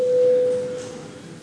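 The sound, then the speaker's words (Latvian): A chamber bell in a parliamentary session sounds once, called by the chair before a vote on a deputy's proposal, as a single steady mid-pitched electronic tone, held for under a second before it fades into quiet background hum, with no one speaking. “Nav nekas piebilstams, lūdzu zvanu.”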